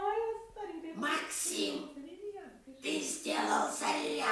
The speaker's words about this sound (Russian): Да, слышите? Вместе с нами живет попугай-жулик, который тоже является членом нашей семьи.